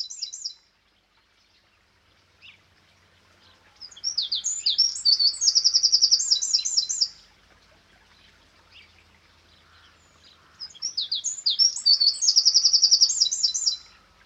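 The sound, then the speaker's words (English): Two loud, rapid bursts of high-pitched wren song, each a fast trilling run of notes lasting about three seconds, separated by a short pause, with a brief chirp at the start. “The wren is the most common breeding bird in the UK.”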